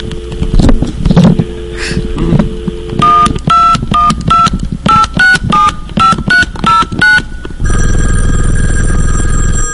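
A quick series of about ten DTMF touch-tone beeps dialing a phone number on a Vonage phone line, each a short dual-pitched tone in a steady rhythm, after some low rumbling noise and followed by a steady ringing tone.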